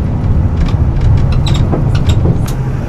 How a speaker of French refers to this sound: Pour ce quatrième jour sur l'île et ce sixième épisode, je vous invite en ce 22 juillet 2014 de prendre à nouveau le bus jusqu'à Sauzon, au nord de l'île.